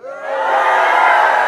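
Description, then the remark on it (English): A crowd of people shouts together in a loud, sustained roar that swells in the first moments and then holds steady, many voices blending into a dense wall of yelling. “So the people shouted.”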